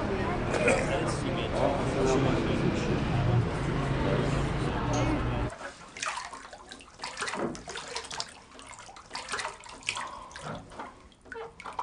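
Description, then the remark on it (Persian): Steady rushing of warm water pours into a tub for several seconds, then cuts off, leaving quieter splashes and soft movement in the water. “میخوان یکم آب گرم دیگه بریزم روش؟”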